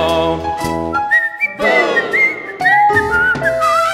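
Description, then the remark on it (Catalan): A bright whistled melody wanders up and down over a full instrumental accompaniment, the thin pure tone carrying clearly above the backing music for several seconds. “Pobres ànimes, víctimes innocents, sempre cauen a les urbes del meu talent, perquè jo canto i ballo, ningú xiula com jo.”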